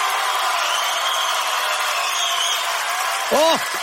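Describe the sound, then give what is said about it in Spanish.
A theatre audience of about 800 people at the Teatro Canú applauds loudly and continuously during a show recording, a dense roar of clapping filling the space, with a brief shouted voice rising above it near the end. “Por favor, tengo un fuerte aplauso porque quiero que el YouTube escuche. ¡Fuerte aplauso!”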